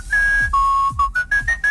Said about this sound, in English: Yep, there he is. That's the theme song.